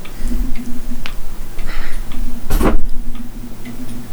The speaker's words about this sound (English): I'm finished slamming the microphone around.